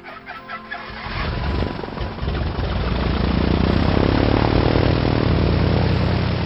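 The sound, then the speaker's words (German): An airplane engine sound effect swells up from a softer start into a loud, steady roar that holds for several seconds, with no voices. “Natürlich steigst du gleich in das grüne Flugzeug ein.”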